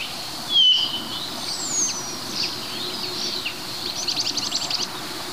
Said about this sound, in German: Dass hier sehr viele verschiedene Vögel durcheinander knallen. Also wir haben den Kleiber, wir haben den Star, wir haben Bluthänflinge, die rüberfliegen. Ab und zu das grelle Lachen des Grünspechtes, den Kranich, der im Hintergrund ab und zu schreit.